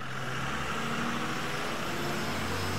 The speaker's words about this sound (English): The bus is around the corner. Here we go. Let's get on the bus.